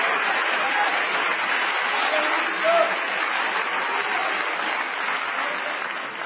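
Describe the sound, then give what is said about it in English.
An audience claps hands together as they pray, in a sustained, dense wash of applause lasting several seconds, steady and fairly loud, with no distinct individual claps standing out. “Come on, let's clap our hands and pray.”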